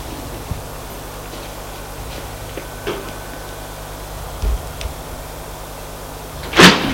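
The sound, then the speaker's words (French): A bedroom door opens over a steady low room hum, with a few faint clicks and creaks leading up to one loud rattling clunk near the end. “La porte s'est ouverte et apparaît”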